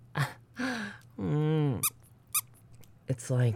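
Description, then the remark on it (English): A voice imitates a squeaky handmade plush toy being hugged, with a run of fairly loud squeaks: short chirps, a long drawn-out squeal in the middle, then a few more quick squeaks. “Warm like a bear, cute like a cat, and always lets out that cute squeak when you hug it.”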